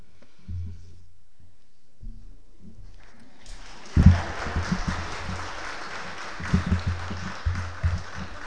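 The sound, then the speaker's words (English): After a few seconds of low hum, an audience breaks into applause after a Bible reading, a dense, steady clapping from many hands that swells quickly and carries on to the end. “Pete Morley Fletcher got a round of applause when he read that at Sundays at 7 a year and a half ago as well.”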